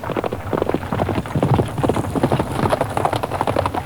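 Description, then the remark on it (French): A horse gallops steadily, its hooves clip-clopping in a quick, continuous rhythm, loud, with no voices over it, as Arthur rides in search of a sword during a tournament. “L'épée de Kay ayant mystérieusement disparu, son frère adoptif Arthur lui promet de lui en trouver une autre et il galope sur son cheval à la recherche d'une épée.”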